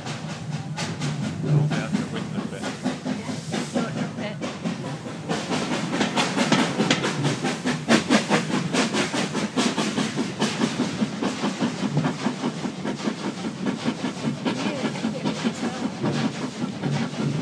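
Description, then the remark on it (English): A steam train rolls steadily over a railroad crossing, its wheels clattering in a loud, continuous clickety-clack with a faint hiss, heard from on board. “Now we're going over a crossing.”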